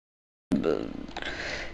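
A single sneeze bursts out suddenly after silence, a sharp explosive onset followed by a voiced, drawn-out tail that fades slowly over about a second.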